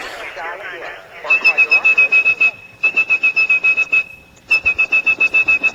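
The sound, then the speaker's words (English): A steady, piercing high-pitched whistled tone, used to trigger the switches of a mechanical telephone network to place a call, sounds in three long stretches, each overlaid with rapid rhythmic pulsing, like signaling tones on a telephone line. “If you had perfect pitch like blind phone freak …, you could whistle calls through the network.”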